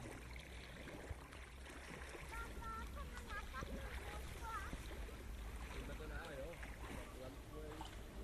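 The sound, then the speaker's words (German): A paddle stirs and swishes through blue lake water beside a boat, like a cook stirring, a steady churning wash over a low rumble of wind, with faint muffled voices in the background. “Wie ein Koch rühren mit Paddel, was ist das im See?”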